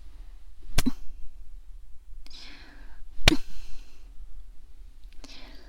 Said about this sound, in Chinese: 被主人丝袜脚扇耳光爽不爽啊？